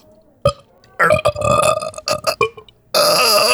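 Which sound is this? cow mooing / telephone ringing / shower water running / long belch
long belch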